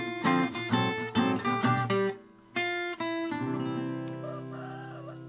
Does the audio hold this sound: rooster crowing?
yes